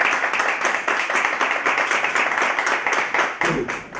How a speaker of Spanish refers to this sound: Por lo menos un aplauso.